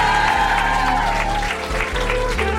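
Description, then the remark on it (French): Steady audience applause, a dense wash of many hands clapping at once, loud and continuous throughout with no break in the sound. “Merci beaucoup, on les applaudit.”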